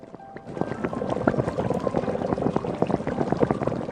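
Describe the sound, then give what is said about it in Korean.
Water splashes and pours steadily into a pot, three or four bowlfuls, for a doenjang soup with clam meat and a spoonful of soybean paste; a continuous bubbling, gurgling stream that starts after a brief pause and stays fairly loud throughout, with no voices. “서너 대접에 물이 들어가면 적당히 차는 냄비에 물 서너 대접과 조갯살, 밥 숟가락으로 하나 정도의 된장을 퍼서 넣는다.”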